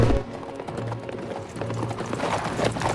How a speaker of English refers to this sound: More police travel in horse-drawn carriages to Heisenheim's home in the country.